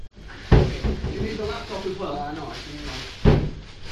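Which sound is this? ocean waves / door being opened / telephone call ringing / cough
door being opened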